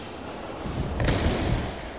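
An underground train rolls along the rails with a steady rumble and a thin, sustained high squeal from the wheels, with a brief clatter midway; no one speaks.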